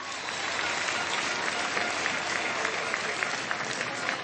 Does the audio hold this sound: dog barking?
no